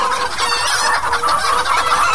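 chickens clucking

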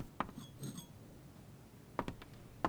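champagne glasses clinking

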